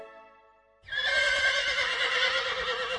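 A horse whinnies loudly, a thin high tone giving way to a long, rough, quavering neigh that fills the rest of the moment, with no voices present.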